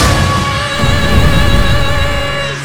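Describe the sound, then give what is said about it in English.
A loud, sustained explosion as the Phoenix zord flies into a monster and destroys it, roaring with deep rumbling low end and a bright, ringing hiss layered over it, holding steady for a few seconds before easing slightly at the end. “The explosion barely fades as the two headstrong commanders turn their attention to the opposing Ranger teams.”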